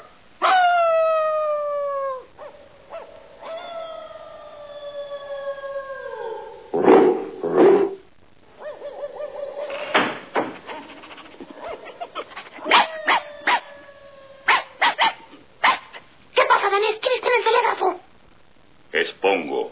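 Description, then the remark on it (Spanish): A dog, Pongo, lets out several long, drawn-out howls that slide downward in pitch, followed by a run of sharp barks and yips, loud. “Vas a despertar a todos los vecinos.”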